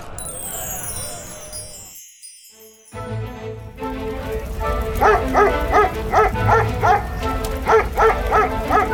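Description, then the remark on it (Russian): A dog barks repeatedly in quick, sharp bursts over a dense, rumbling background, following a brief moment of near silence early on, as it pushes fleeing people along and tugs children by their hems. “Лает, толкает их. Ребятишек за подолы тянет.”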